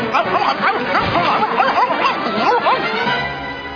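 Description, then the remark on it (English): A dog barks and whimpers in a busy, overlapping stretch of yelps and rising whines that runs steadily for a few seconds, fairly loud. “sure is a pretty dog.”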